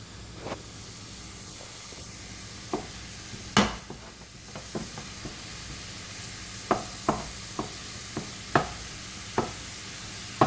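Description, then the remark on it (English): Sausage sizzles steadily in a frying pan while a utensil scrapes and taps against the pan at irregular intervals as the meat is mashed into little tiny pieces and pushed around so it gets done all the way through. “So I'm just mashing this sausage into little tiny pieces in the frying pan and keeping them scooted around to make sure that they get done all the way through.”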